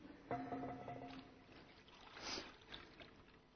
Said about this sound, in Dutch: Nou ben ik benieuwd, is er een van de kinderen die mij wil helpen om het doopwater in het doopvont te gieten? Jij mag komen, jij was eerst. Kijk eens. Want zo helpen we elkaar natuurlijk. Kijk, je mag het er gewoon helemaal ingieten.